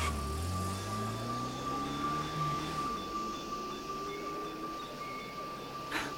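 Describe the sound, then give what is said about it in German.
A taxi's engine revs and rises in pitch as it pulls away and threads into traffic, settling into a steady hum of surrounding traffic, with a faint constant tone running throughout. “Das Taxi fuhr an und fädelte sich in den Verkehr ein.”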